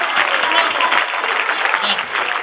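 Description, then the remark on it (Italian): Steady audience applause for a speaker who has just concluded, a dense wash of many hands clapping at once, fairly loud and continuous for the whole stretch without talk over it. “dopo l'antistaminico, prendi un altro applauso che ti fa bene per la allergia.”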